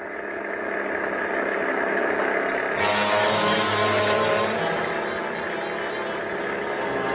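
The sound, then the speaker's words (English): An old Marmon car engine, souped up to reach 50, rumbles steadily, then revs up louder and deeper around the middle and keeps running hard as if pulling away on a slick, icy road. Continuous and without voices. “I've got her souped up to where she'll go 50. Hold on.”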